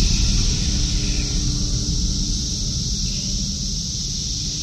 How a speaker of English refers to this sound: What's so interesting about the cicada sounds is when you just hear it for the first time, you just hear white noise. You just hear... just noise. But when you learn what's going on, you can hear the different parts of the orchestra.